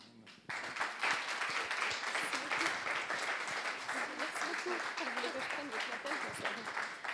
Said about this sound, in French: C'est toujours tellement un plaisir de pouvoir accueillir des personnes aussi inspirantes dans notre église. Je pense qu'on peut les applaudir, à mon avis.